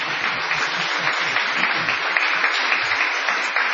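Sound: applause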